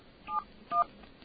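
telephone number being dialed

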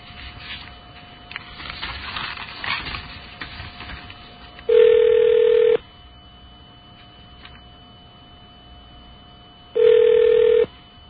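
telephone tones

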